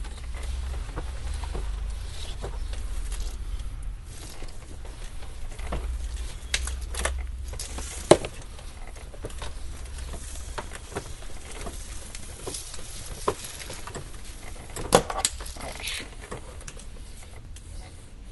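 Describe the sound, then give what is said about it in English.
Steady rustling and scraping with scattered clicks and knocks as a 50-foot garden hose is wound up, a soft continuous patter with a few sharper taps, no talking. “Okay, we're gonna wind it up here.”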